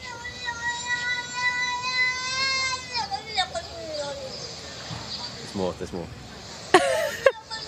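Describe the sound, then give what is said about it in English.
A cat lets out one long, drawn-out meow that slides downward in pitch, followed by softer broken murmurs and a brief sharp noise near the end. “So what do you think this cat is saying?”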